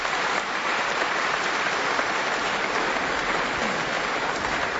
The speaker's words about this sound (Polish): Przybywacie, może brawa dla wszystkich na początku, tak po prostu, naraz.